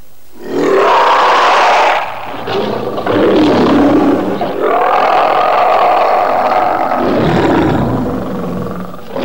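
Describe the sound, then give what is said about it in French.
A lion roars loudly in several long, rough, growling bursts that run almost back to back for about eight seconds, with no talking. “Parfaitement, le lion.”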